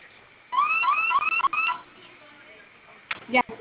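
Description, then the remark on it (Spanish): A security alarm sounds during a test, set off by holding a button for ten seconds, with a quick series of about four rising electronic whoops, loud, then cuts off abruptly, followed by a short burst of noise near the end. “Oprima el botón de la flamita durante 10 segundos, se va a activar la alarma.”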